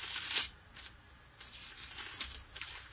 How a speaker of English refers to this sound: Boy, I love them pages turning.